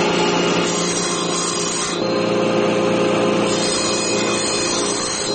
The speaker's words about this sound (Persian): تخته چوبی را با اره برقی می برد تا برای یک از مشتریانش در هرات میز غذاخوری بسازد.